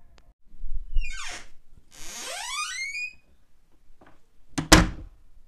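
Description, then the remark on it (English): A large wooden door inside a wooden cabin is pushed and creaks open slowly in two long, groaning, pitch-sliding strains, followed by a heavy thud. No one speaks. “You push on the wooden door, and it slowly creaks open.”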